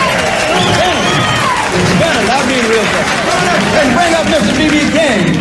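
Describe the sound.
A loud, unbroken wash of audience clapping with cheering and whooping voices rising and falling over it, holding steady for several seconds.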